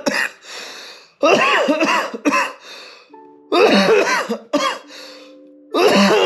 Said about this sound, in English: I took one hit and I'm already fucking coughing. Makes no sense.